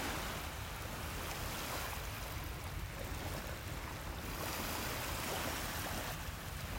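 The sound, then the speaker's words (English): A steady, full wash of ocean surf rolls on without pause, the broad roar of waves on the shore holding an even loudness throughout, with no voices present. “Be like this ocean.”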